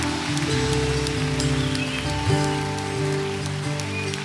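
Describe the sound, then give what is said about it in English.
A church audience applauds steadily for several seconds at the end of a service, a dense wash of clapping with sustained organ-like tones holding underneath and no voices. “Come on, somebody, we can't give half claps.”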